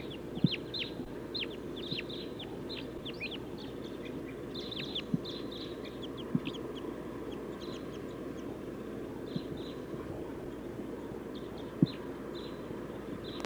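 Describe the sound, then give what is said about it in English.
A flock of about seven to nine crossbills circling gives sharp, high chip calls in scattered bursts, many overlapping, over a steady low rumble, with a few soft clicks now and then. “Five, seven crossbills. Or maybe nine. They're circling.”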